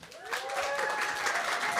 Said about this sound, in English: I have a very important guest with me today. Give a big applause to Sirenus from Dimmeborger.